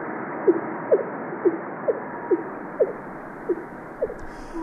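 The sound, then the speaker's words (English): A whale call: eight short, low upswept tones repeat at a steady, even pace, each a brief moan-like pulse rising above a constant background hiss, with no voices. “They make exactly the same frequency of that sort of moaning.”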